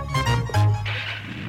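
A motor cranks to life and revs in a couple of deep, throaty bursts, loud, then settles into a rougher, hissing idle. No one speaks.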